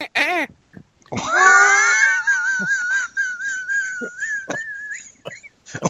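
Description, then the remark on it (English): A voice imitates a dolphin: a quick chirp, then a long, high, warbling squeal that wavers in pitch for several seconds, ending with a few short squeaks and clicks. “Like you try to put it in your wife and she sounds like a dolphin.”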